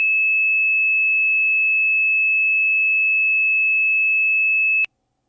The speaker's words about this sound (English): So the next one's a very special frequency. That's 2,600 hertz. Let's listen.